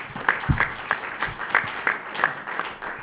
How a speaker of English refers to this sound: So, again, we all thank Valero, and let's give them another round of applause for what they do for this community.